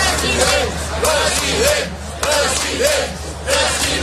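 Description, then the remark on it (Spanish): A large crowd chants "president" at Jordi Pujol as he comes to vote, over and over in a steady, rising-and-falling rhythm, the loud chorus repeating roughly every second above a constant roar of voices. “A quien gritan president, president, no es a Laporta.”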